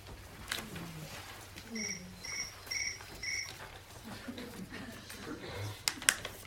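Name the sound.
crickets chirping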